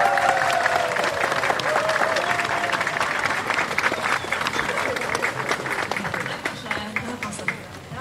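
A crowd in Falköping, Sweden, claps in steady, dense applause for skier Johanna Hagström, with a brief high whistle or cheer near the start, and the clapping thins slightly at the very end.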